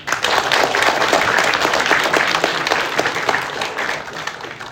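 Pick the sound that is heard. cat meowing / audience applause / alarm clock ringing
audience applause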